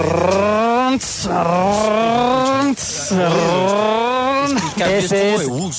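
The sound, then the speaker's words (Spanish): A voice imitates a car engine, droning and rising in pitch through three revving runs, each cut by a brief pause as the clutch engages and the engine loses thrust, before climbing again. “Ese es el cambio de embrague, porque se desfoga el carro cuando entra el embrague.”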